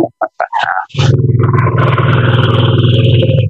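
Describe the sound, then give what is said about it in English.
After a few short clicks and splashy taps, the electric water flosser of a combined toothbrush and flosser unit is started by pressing its floss button alone, running with a loud, steady, low pulsing buzz for about two and a half seconds, then stops. “Now I would just press just the floss button by itself.”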